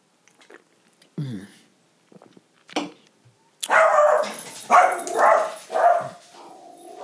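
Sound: small dog barking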